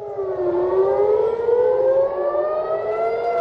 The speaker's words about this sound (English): A residential building in northern Israel was hit by a projectile on Monday after air raid sirens blared across the border town of Nahariya.